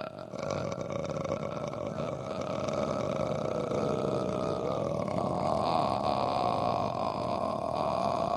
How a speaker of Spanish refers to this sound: Es la mínima expresión vocal. Se llama frito y es para relajar las cuerdas vocales. Es un asco, porque parece que estuviera eructando, pero no.